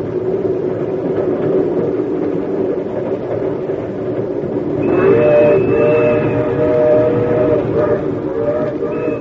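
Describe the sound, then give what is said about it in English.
A train pulls out with a steady, heavy rumble of rolling wheels, and midway a loud sustained whistle blows over the noise and holds to the end. “All aboard! Trains pull the ice!”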